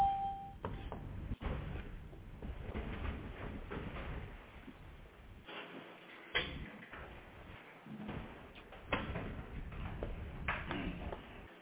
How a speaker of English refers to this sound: Someone who doesn't have their phone on mute, and it sounds like they're in a large room, so that really is going to be a problem.